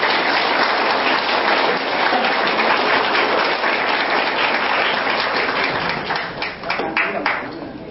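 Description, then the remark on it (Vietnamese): An audience at a performance applauds the singers steadily, a dense wash of many hands clapping at once, loud and sustained before it thins slightly toward the end, with a few voices mixed in. “Xin quý vị một lần nữa một tràng pháo tay.”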